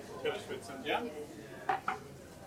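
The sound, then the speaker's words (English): Plates of food, with poached eggs, mushrooms, halloumi, hummus and ciabatta bread, are set down on a table with two sharp ceramic clinks near the end, preceded by soft clattering and murmured voices in the background. “Oh, here comes our lovely food.”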